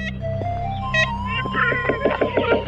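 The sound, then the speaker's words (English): Ivory-billed woodpecker calls, the largest woodpecker native to North America, of bottomland forests in the southeastern United States: nasal, tinny toy-horn-like notes repeated in a quick, uneven series, growing busier toward the end over a steady low background hum. “The sounds of a bird we may never see or hear of again.”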